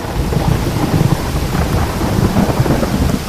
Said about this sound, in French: Un homme pêchait de nuit quand, soudain, un nuage noir sortit de la montagne et couvrit bientôt le ciel. Puis, apparut un nuage blanc qui déclencha un orage au-dessus de sa tête.